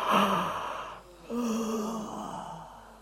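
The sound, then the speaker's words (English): A drawn-out yawn during a stretching exercise: a breathy intake, a brief pause, then a long voiced exhale that slides downward and trails off, with no talking. “Let yourself yawn.”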